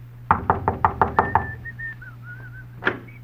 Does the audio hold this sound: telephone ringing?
no